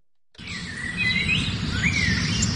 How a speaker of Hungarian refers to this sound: Madárcsicsergés, napsütés, megérkezett a tavasz, a jó idő.